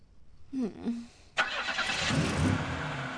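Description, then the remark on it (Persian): A car engine cranks with a brief whining starter, then catches with a sudden burst and settles into a steady, fairly loud running rumble as a boy without a driving licence gets ready to drive. “هیچ معلوم هست داری چی کار میکنی؟ رانندگی؟”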